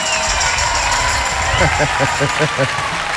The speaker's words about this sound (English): This is a new twist on a very old song with my ex-husband actually singing, so I'd like to give a round of applause